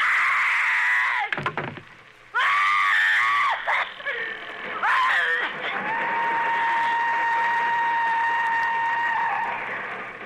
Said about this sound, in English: When she's attacked in her bedroom, Agnes Moorhead screams. And she worked it out so that her scream would be the exact pitch of the whistle of the train that was going by her home.